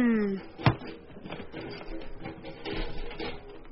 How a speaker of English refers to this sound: Got to close the door on this cake.